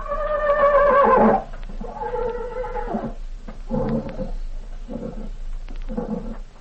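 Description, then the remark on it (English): A horse named Tarzan gives a loud, drawn-out whinny, followed by several shorter, fading neighs in quick succession, clear with no talking. “Tarzan always was a smart horse.”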